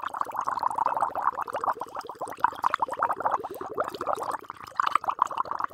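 Water bubbling steadily at a rolling boil as peas cook in a pot early in the morning, with a dense stream of small pops and gurgles, fairly quiet and continuous throughout with no voices.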